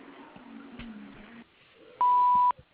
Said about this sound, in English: After the tone, please leave us your name, phone number, and any brief message. We will return your call promptly.